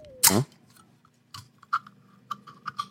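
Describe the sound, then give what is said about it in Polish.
A can of Red Bull Sugar Free snaps open with a sharp crack and a brief, bright hiss, followed by a scatter of faint clicks and light tapping noises. No one speaks. “Słyszałeś ten dźwięk? Puszka jakaś, psyknęło coś.”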